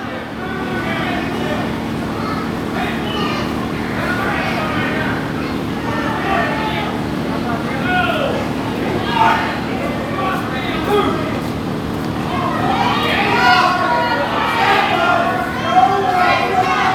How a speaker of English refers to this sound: You hear the fans cheering for Chris Michaels, booing for Derek Neal.